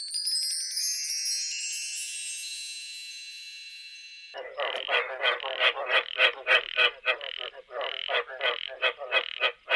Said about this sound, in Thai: เสียงที่ได้ยินเมื่อกี้นี้คือเสียงของกบค่ะ